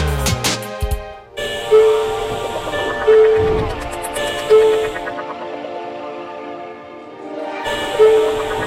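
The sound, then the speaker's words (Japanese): A train runs steadily on its rails, a continuous low rumble of rolling wheels, with a few brief high tones recurring every second or so. No one speaks. The train is arriving at Inuyama station, Japan. “ご乗車ありがとうございました。まもなく犬山に到着です。”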